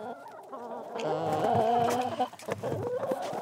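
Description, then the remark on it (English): Chickens kept on a shared community homestead cluck, one drawn-out squawking call rising over the flock before breaking into short, choppy clucks, with no one talking. “We check out the gardens and the orchard, the pond, the sauna, the bonfire pit, the chickens and all the goats.”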